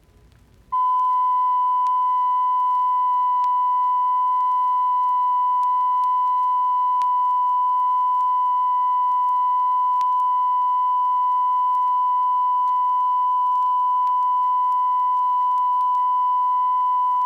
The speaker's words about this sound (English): Here is a 1,000 cycle tone recorded at less than 1% distortion.